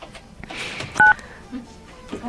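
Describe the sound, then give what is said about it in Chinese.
A single short, loud telephone keypad tone beeps over faint background noise, a brief dual-pitch dialing beep with no talking, as a phone call to a friend is dialed. “哎，我们要打给他吗？ 好啊。 我们打给他，问他那个。”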